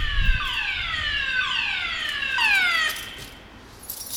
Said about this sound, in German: Eine Abstellanlage, wo in der Nacht halt die Fahrzeuge abgestellt werden. Man hört die Alarmanlage. Also mal einfach hier so reinzugehen, ist nicht der Fall.